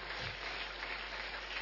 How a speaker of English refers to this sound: Give God a big clap offering, everybody.